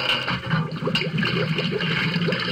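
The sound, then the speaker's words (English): Water rushes and gurgles steadily into a submarine through an opened water cock, down in the Hudson River, a loud, continuous churning flow with a hollow, sloshing texture and no voices. “Then he blinked his eyes as more water flowed into the vessel.”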